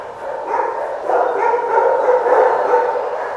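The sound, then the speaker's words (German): A dense chorus of many dogs in kennels barking and yelping at once, overlapping into a steady, echoing din that holds at a fairly loud level throughout, with no voices. “Die werden nach Liste aus ihren Zwingern geholt, einzeln und dann gewaschen und dann raus in die Sonne zum Spazieren kurz zum Trockenwerden und dann gehen sie wieder zurück ins Zwinger und werden morgen sauber eingepackt.”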